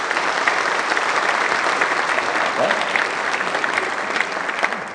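An audience applauds steadily, dense overlapping clapping holding at an even, fairly loud level for the whole stretch with no voices standing out.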